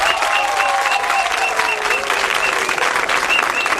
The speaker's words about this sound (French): Alors pour notre première émission, oui, vous pouvez applaudir le FEMUA.